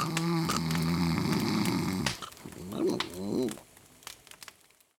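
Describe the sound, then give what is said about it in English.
An elderly man asleep in front of a fire snores: a loud, rasping snore drones for about two seconds, followed by a wavering, snorting breath and a few faint clicks before fading into quiet. No one speaks. “My grandfather is asleep in front of the fire. He's snoring.”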